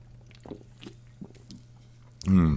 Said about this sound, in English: Also, I gotta take a sip of my drink. I'm sorry, I can't get my way around this one.